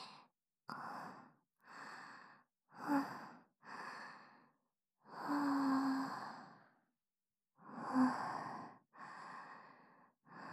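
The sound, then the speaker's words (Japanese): Heavy, out-of-breath breathing: about nine rapid, rough inhales and exhales in a steady rhythm, one longer drawn-out breath in the middle, with no talking. “息切れちゃった。うるさかったらごめんね。”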